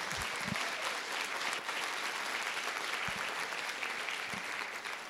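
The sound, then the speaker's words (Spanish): Sustained audience applause, a steady dense patter of many hands clapping at an even loudness for about five seconds, with no talking over it. “Así que, por lo menos, aplaudan si quieren.”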